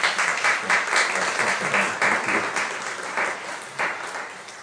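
A crowd applauds steadily with dense, overlapping claps, loud at first and tapering slightly over the few seconds, with no voices breaking through.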